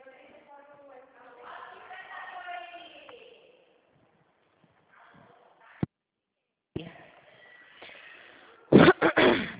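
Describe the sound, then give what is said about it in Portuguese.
A short burst of two or three loud coughs comes right at the end, following a stretch of muffled voice and a brief pause. “Uma tosse.”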